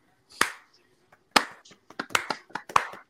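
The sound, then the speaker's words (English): A soft, polite golf clap: two isolated claps, then a quicker, uneven patter of light hand claps, fairly quiet, with no voices. “I just think we just got to end with a golf clap.”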